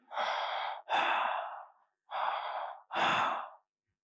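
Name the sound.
imitated loud heavy breathing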